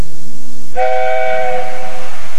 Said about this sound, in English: Every afternoon, Thomas the Tank Engine puffs along his branch line with Annie and Clarabelle.